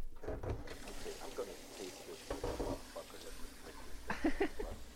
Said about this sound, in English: Ah! Water sounds.